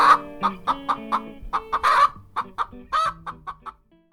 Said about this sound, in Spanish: Piensos luego existo, el pienso que hace que tus gallinas digan cloc.